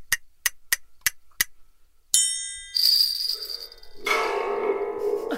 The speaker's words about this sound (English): do your clap, and then do the triangle, and then you're going to jingle bell.